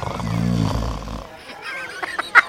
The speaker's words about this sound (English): The pixie archer zipped around, shooting anyone in sight with its sleeping arrows, resulting in yawns and snores from anyone who got hit.